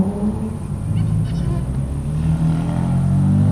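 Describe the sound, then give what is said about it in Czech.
Deep, throaty rumble of about ten powerful car engines idling and revving together in a shopping centre parking lot in Ostrava, Czech Republic, at 11 pm on a Saturday just after the centre closed, loud and continuous, with a shifting low drone and no clear speech. “Sobota, 11 hodin večer, obchodní centrum právě zavřelo a na parkovišti se schází asi desítka silných aut.”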